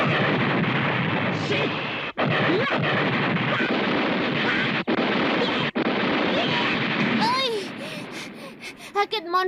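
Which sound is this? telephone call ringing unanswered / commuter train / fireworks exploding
fireworks exploding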